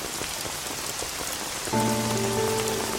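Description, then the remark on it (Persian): Steady, dense rain hisses and patters throughout, close and constant. Partway through, a sustained low tonal drone or chord joins underneath the downpour. “یهو بارون گره، بیا این چتر رو بگیر.”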